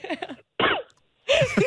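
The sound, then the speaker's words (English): A short cough-like sound, three throaty vocal bursts separated by brief pauses, with no spoken words around them. “Is that a cough or was... I don't even know what to make of that response.”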